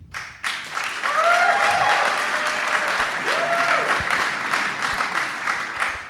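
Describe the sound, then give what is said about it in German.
An audience cheers loudly and steadily for Tour de France rider Jonas Vingegaard in a cheering contest, a dense roar of applause with a few rising whoops and shouts cutting through the noise. “Wir machen jetzt mal so einen kleinen Jubel-Contest.”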